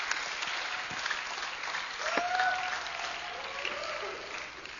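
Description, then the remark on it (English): A church audience at a bilingual English and Hungarian service applauds to give thanks to the Lord for a visiting guest, steadily for several seconds, a dense wash of clapping with a few faint whistles or cheers rising partway through, fairly loud and sustained throughout. “And let's give thanks to the Lord for him with a great clap.”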